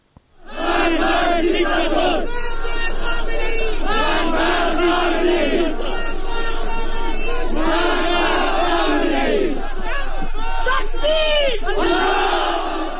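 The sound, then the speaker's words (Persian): A large crowd of protesters in the city of Khash, Sistan and Baluchestan, Iran, shouts and chants during clashes, many raised voices overlapping in a loud, continuous roar with surges of higher-pitched yelling throughout. “گزارش‌ها و ویدیوهای منتشر شده در شبکه‌های اجتماعی از اعتراضات و درگیری‌هایی در شهر خاشنیز حکایت دارد.”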